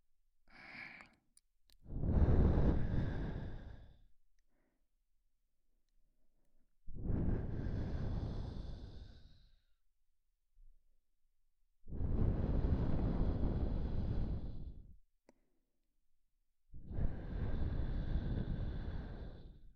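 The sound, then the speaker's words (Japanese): Four long, warm exhaled breaths blown at the ear and down the neck, each a soft rushing puff lasting about two seconds, with quiet pauses between them in a slow, steady rhythm and no speech. “耳元から首筋にかけて温かい吐息が伝わるとたまらんじゃろう。”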